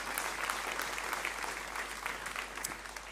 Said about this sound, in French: On peut applaudir quand même l'équipe de ménage qui viennent.